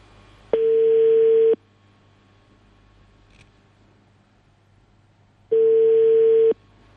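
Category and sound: signal or alarm, telephone call ringing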